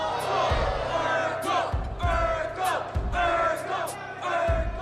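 A dense crowd in a club shouts and cheers loudly and continuously, with a thumping low bass beat pulsing beneath the roar at a steady, regular rhythm.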